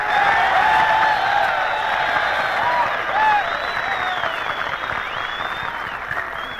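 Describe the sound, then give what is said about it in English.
A large audience applauds steadily as a singer is introduced, a dense, loud wash of many hands clapping at once, sustained throughout with a few scattered cheers and whistles rising above it. “Fellas, you can keep on applauding because here she is, radio's number one singer, lovely ….”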